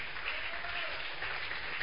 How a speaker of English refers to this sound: Clap your two hands together for Jesus. Do it better. Do it better.